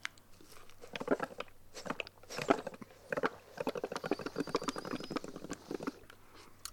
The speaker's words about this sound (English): That's me blowing bubbles in my milk. Oh, that sounds like fun. Yeah, some milk splattered out onto my shirt, though.